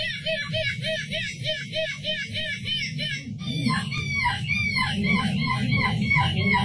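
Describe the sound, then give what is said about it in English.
A boy dressed in a seagull costume imitates a seagull at the European Gull Screeching Championship Junior Division in Belgium, winning gold for the second year in a row, letting out a rapid, steady run of harsh, high squawks, then shifting midway into longer, wavering screeches over a low rumble of background noise. “won gold for the second year in a row at the European Gull Screeching Championship Junior Division”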